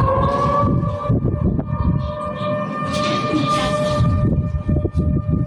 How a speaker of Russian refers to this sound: В пятницу после обеда в Оренбурге уже звучали сирены. Началась срочная эвакуация людей. Это связано с тем, что уровень Урала возле Оренбурга превысил 11 метров.